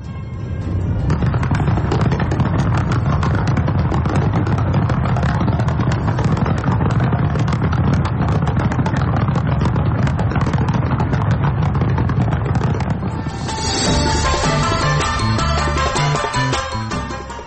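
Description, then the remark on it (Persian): A loud, unbroken barrage of fireworks opening the Winter Olympics opening ceremony in South Korea, dense crackling pops and bangs overlapping with no pause, before the bursts give way to a brighter, tonal, music-like passage near the end. “این مراسم با آتش بازی آغاز شد.”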